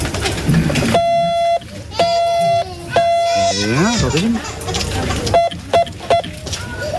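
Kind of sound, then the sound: signal or alarm, morse code beeps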